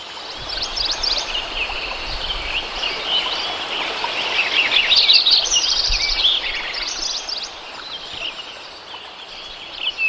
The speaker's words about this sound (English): Here's some sound you took in the summer of 1988, where you can hear woodpeckers and mountain quail and chirping sparrows and Lincoln sparrows, frogs and insects.